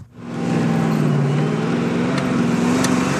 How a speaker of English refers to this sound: we're going to come cruising in Shane's gorgeous 1970 Ford Mustang and blow his mind